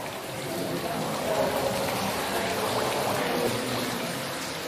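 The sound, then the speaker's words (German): A steady, full-bodied rush of flowing water from a water installation in the Israeli pavilion runs throughout, fairly loud, with a faint murmur in the background. “Der israelische Pavillon umfasst eine Wasserinstallation.”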